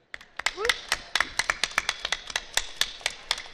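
Thin, scattered applause from a small group, a handful of sharp hand claps spaced unevenly and fairly close, with a brief high vocal whoop near the start.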